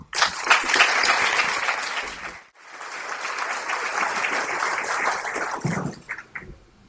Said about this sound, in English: Please give them a big clap.